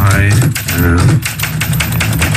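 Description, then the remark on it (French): Keys of Paul Auster's 50-year-old Olympia manual typewriter clack in a quick, uneven run of sharp strikes, fairly loud, with a voice talking briefly underneath during the first half. “Voilà, c'est la mélodie de Paul Auster, en quelque sorte, qu'on entend avec le bruit du clavier de cette vieille Olympia.”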